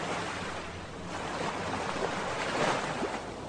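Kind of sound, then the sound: nature, ocean waves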